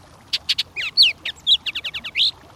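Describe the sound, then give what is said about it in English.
A Bullock's Oriole, a brilliantly colored songbird, sings a quick, varied phrase of whistled and chattering notes, about a dozen bright syllables in rapid succession, clear against a quiet background. “Some songbirds, such as the brilliantly colored Bullock's Oriole, stop to nest along the Cache la Poudre River as it flows through Fort Collins, Colorado.”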